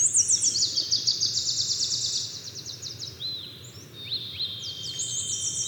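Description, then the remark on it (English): A dawn chorus of birdsong at 3 a.m. in Glacier Bay park, with several birds layering rapid high trills and quick rising whistles continuously over a steady low rumble. “They spent up to 10 days at a time camped in the park, often waking up at 3 a.m. to the soundscape of birdsong.”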